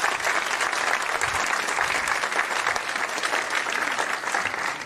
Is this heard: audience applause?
yes